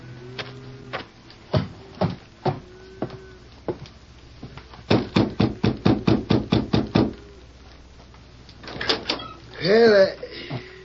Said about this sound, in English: Doesn't seem to be here in the yard, Victor. I'll have to knock on a door.